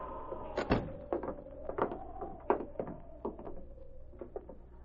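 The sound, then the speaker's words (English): A wooden cabin door is opened, with a sharp thump followed by a series of creaks and soft knocks as it swings, over a low steady hum. “The sergeant opened the door.”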